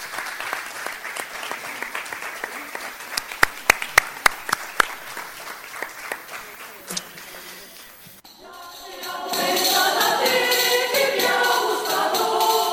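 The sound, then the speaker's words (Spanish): An audience applauds the winning student of a poster competition, clapping steadily with a few sharp individual claps standing out, before the sound swells into a denser, louder wash of noise for the final few seconds. “Un aplauso para ella, que no sé si estará por ahí atrás.”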